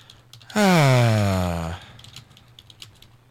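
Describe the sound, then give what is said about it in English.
Quick, light clicks of someone typing an email message on a computer keyboard patter faintly in the background. Early on they are briefly drowned out by a loud, smooth tonal sound whose pitch slides downward. “Can you hear me typing in the background?”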